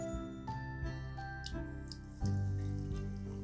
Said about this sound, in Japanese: いい音、炭酸のいい音です。